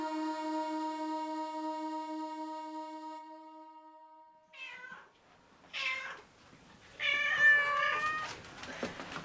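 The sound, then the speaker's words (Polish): A long, steady horn-like tone fades out, then the speaker's cats, including one named Krzysiek, meow angrily in a few drawn-out, strained calls that grow louder and overlap toward the end, with no talking. “O, już wszystkie się koty moje uruchomiły.”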